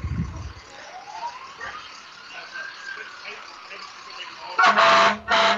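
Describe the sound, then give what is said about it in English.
The siren of Tilden Fire Department engine 5512, a fire engine in a parade, slowly wails up and down over crowd murmur, then two loud, blaring air-horn blasts cut in near the end. “We got Tilden Fire Department, engine 5512. Another nice truck.”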